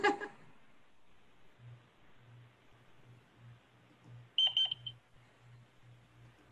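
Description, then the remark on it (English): A Seoul Metro failure chime: a short cluster of shrill electronic beeps, three or four quick high tones, rings out over a low, steadily pulsing hum, with a brief burst of noise at the very start. “This is from the Seoul Metro.”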